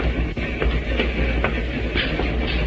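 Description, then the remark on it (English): Train wheels clack steadily over rail joints in a dense, rumbling roar, with faint periodic knocks repeating beneath the continuous low-pitched rolling noise of a moving railway car. “The wheels of the train must have been listening to what that woman said, because they repeated it.”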